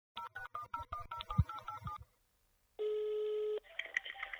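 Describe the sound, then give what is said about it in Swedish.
A quick string of touch-tone keypad beeps dials a number, followed by a short pause and then a single steady ringback tone of an outgoing phone call, ending in faint line clicks. “Ska vi se vem nästa kan bli. Som vi ringer upp alltså.”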